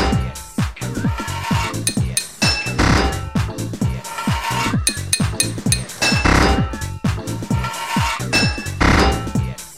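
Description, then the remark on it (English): A video game hammer bangs on a metal pipe again and again to fit it, six hits per pipe, loud, rapid clanking hits in a steady rhythm with bright metallic ringing and no talking. “Six hits of your hammer to fit a pipe.”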